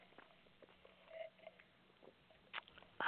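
sipping water

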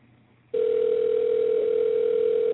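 telephone dial tone

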